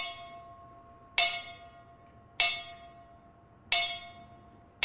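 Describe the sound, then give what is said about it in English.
Memorial bells signaling the last call toll at a local National Fallen Firefighters Memorial Service, in honor of 20 Texas firefighters and 106 around the country who died last year: slow, evenly spaced strikes, three clear clangs with a fourth just beginning, each ringing out and fading over a low background hum. “Bells signaling the last call were played in honor of 20 Texas firefighters and 106 around the country who died last year.”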